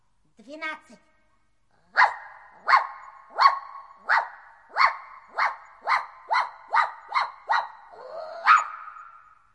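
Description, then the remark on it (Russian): A short whine, then a dog barks about a dozen times in a steady, quick rhythm, loud, with no talking over it. “Прыгай в лодку, фарфоровая собачка.”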